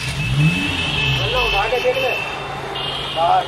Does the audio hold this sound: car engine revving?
yes